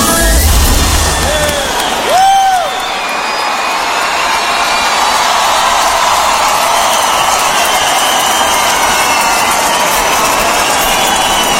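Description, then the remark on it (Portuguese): A large crowd at a show applauds and cheers in a loud, continuous wash of clapping and shouting that lasts throughout, with a brief rising-and-falling whistle cutting through early on. “Uma salva de palmas.”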